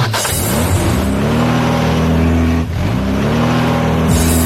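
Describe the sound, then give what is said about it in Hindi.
A loud engine revs up steadily, its pitch climbing through a couple of gear-like rises as a vehicle is driven away, with no talking over it. “नहीं कोई बात नहीं, अब मैं जा रहा हूँ गाड़ी लेकर उनकी सुंडल बुंडल हमके पास।”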